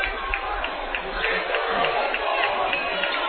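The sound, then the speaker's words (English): A Northwest Missouri State basketball crowd reacts to a referee's offensive foul call against Northwest, many not liking the call, with a loud, continuous wash of voices, an unbroken roar of murmuring and shouting that holds steady for several seconds. “And a good part of this Northwest Missouri State crowd not liking that call.”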